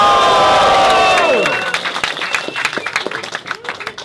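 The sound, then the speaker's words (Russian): A live crowd cheers and shouts loudly, the roar dying down after a second and a half into scattered claps and whoops. “Ну пошумите, если узнали что-то, камон!”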